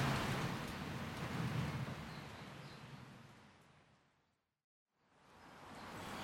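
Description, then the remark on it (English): Steady, dense hiss of rain falling outside on the first properly rainy day, constant, fading away into a brief moment of silence before the downpour swells back in. No one speaks. “Welly, welly, welly, this is just a day of recalibrating plans, but to be fair, it is the first properly rainy day.”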